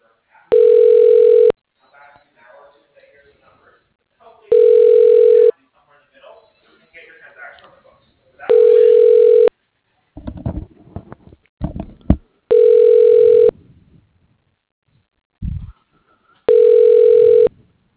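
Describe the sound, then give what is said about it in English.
A telephone ringback tone repeats five times as a call is transferred to an extension at PQ Corporation, each steady buzzing ring lasting about a second with roughly three-second gaps, while faint muffled voices and line noise fill some of the pauses. “Please hold while I try that extension.”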